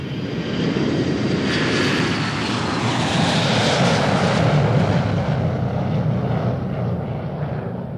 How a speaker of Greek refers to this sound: Το αεροπλάνο της Ολυμπιακής πετά πάνω από το Αιγαίο.